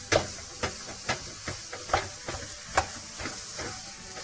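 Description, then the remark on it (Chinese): Ground pork sizzles steadily in a hot pan as it is stir-fried until white to make a minced meat topping, with a soft continuous hiss broken by sharp, irregular scraping clicks as a spatula stirs it, with no talking. “要肉啊整个炒到白之后呢才可以再加这个调味料哈。”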